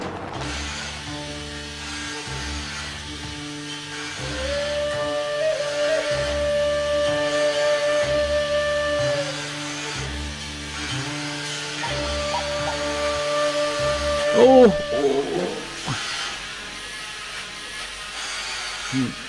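A powered cast saw cuts through a plaster cast, whining steadily over a rhythmic, pulsing grind, its pitch holding through the middle and briefly rising near the end, fairly loud throughout with no talking.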